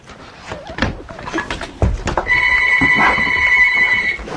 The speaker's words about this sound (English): Telephone.